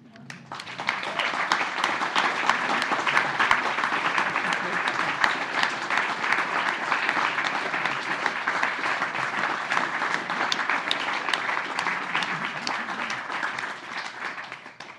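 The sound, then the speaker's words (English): An audience applauds steadily for about fifteen seconds to thank a guest for coming and talking to them, a dense, even wash of many hands clapping at a fairly loud level with no one speaking over it. “Well, just to say, you're going to get another round of applause, actually, now, I think,”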